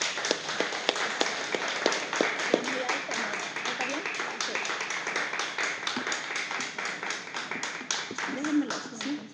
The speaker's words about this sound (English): But thank you, and let's just give her a round of applause to welcome her. Thank you.